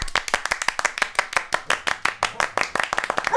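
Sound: audience clapping hands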